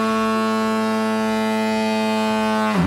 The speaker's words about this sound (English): put in the old fog horn. That'll give it something.